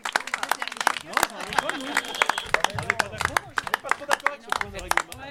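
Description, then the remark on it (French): An audience applauds the two teams finishing third and fourth in a game competition, with dense, irregular handclaps that continue for several seconds, mixed with overlapping voices and cheers throughout. “On peut applaudir les deux équipes qui finissent 3e et 4e.”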